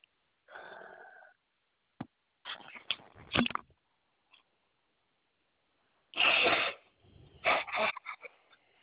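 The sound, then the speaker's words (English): A person blows their nose a few times, with loud, breathy honking bursts, a couple of short blasts followed by a longer, stronger honk and some sniffling in between. “I'm going to put my phone down. I got to blow my nose.”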